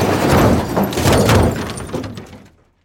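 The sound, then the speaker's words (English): A loud car crash as something strikes a car from the side on a country road: a heavy impact followed by shattering glass and crunching, twisting metal, with crackling debris for about two seconds before it quickly fades to silence. “Something struck our car from the side. The sound of shattered glass and twisting metal mixed with the screams of my wife.”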